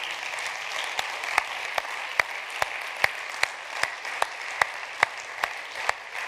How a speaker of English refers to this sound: Can we give him a hand clap tonight?